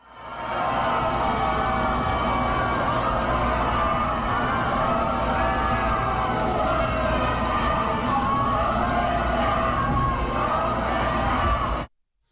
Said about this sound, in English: Also, Donald Trump, he went to go and pay respect to Ruth Bader Ginsburg. And as he was there on the Supreme Court steps, once they saw him, they started booing him and chanting, "Vote him out." Listen to this.